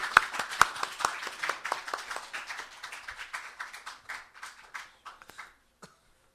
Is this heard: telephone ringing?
no